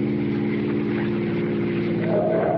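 A steady, loud car engine drone with strong low harmonics runs throughout as the car is driven on a road, rising slightly in pitch and intensity near the end as the driver speeds up.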